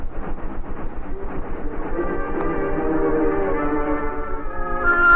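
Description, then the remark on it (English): A Union Pacific train rolls along the rails with a steady, rhythmic clatter and a low rumble, a droning tonal hum rising over it as it passes and grows louder at the end. “Look at that train. Those rails to the horizon and beyond.”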